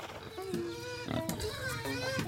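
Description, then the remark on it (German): Pigs grunt and squeal in a quick, overlapping series of nasal, tonal calls beneath a village house built on short stilts, steady in loudness across the short stretch. “Sie sind auf kurzen Pfählen gebaut, denn unter dem Haus leben die Tiere, Schweine, Ziegen, Hunde, Hühner.”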